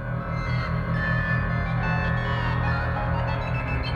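Spider web vibrations rendered as sound, created with computers and mathematical algorithms from researchers' 3D models of spider webs made while spiders were building, repairing, hunting and feeding: a steady, loud drone of layered humming tones over a softly pulsing low throb, continuous throughout with no one speaking.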